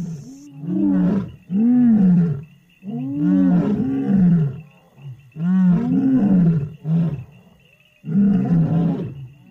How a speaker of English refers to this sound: Lions are social. They live in groups, and so it's very important they communicate with each other and know where everyone else is. And that's why lions roar.